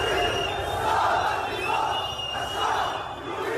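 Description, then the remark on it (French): A large protest crowd in Lebanon chants in unison against corruption and for the fall of the government, loud and continuous, with rhythmic swells of many voices rising and falling every second or so over a dense wash of noise. “La foule dénonce la corruption et exige la chute du gouvernement.”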